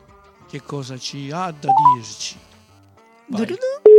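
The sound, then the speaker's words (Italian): A voice talks over a short run of electronic dialing tones, then after a pause a steady ringing tone begins, like a phone call being placed and starting to ring. “Ecco che squilla.”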